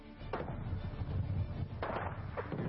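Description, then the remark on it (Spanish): Gunfire, a few scattered sharp reports spaced irregularly over a constant low, rumbling background noise, with no voices present, heard while people queue to board the ship Wilhelm Gustloff. “Se oían disparos mientras hacíamos cola para subir.”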